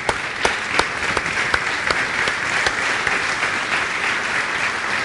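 Steady applause fills the whole stretch, a dense patter of clapping with a few sharper individual claps standing out early on, sustained at an even, fairly loud level.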